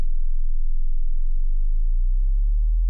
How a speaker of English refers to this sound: Now, this is 20 hertz.